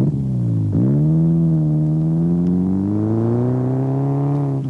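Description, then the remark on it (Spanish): An American Chevrolet car engine idles loudly, dips briefly, then revs with a steadily rising, throaty pitch that holds strong for several seconds, with no voices. “Un coche. Un Chevrolet. Un coche americano.”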